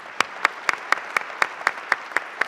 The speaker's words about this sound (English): If I could just ask for a round of applause for our fabulous head table.